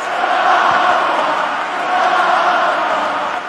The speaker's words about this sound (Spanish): Perdí mi primer partido en Copa Davis y ahora pierdo el último, se cierra el círculo, dijo Nadal, mientras la gente coreaba su nombre y brindaba 1.5 minutos de aplausos.